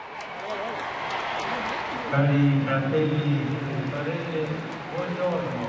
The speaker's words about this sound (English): Roaring crowds cheer on the Pope at midday prayer in St. Peter's.